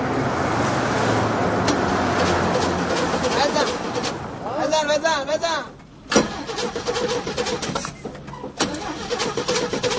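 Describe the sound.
A car engine cranks and turns over, then runs with a steady, close rumble that briefly dips and revs again, while people talk nearby.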